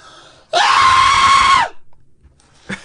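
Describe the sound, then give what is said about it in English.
A person lets out a loud, sustained high-pitched scream lasting about a second, mimicking a cartoon character's shriek, recorded on a German-made large-diaphragm condenser microphone, followed by a brief faint sound. “My high pitched cartoon scream.”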